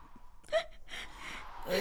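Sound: girl crying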